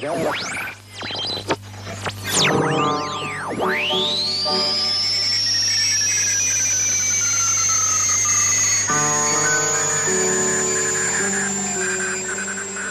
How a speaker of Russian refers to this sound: Вы слышите не кратковолновый шум и не помехи. Это звучит композиция немецких радиохудожников «Радио на радио», посвященная искусству радио.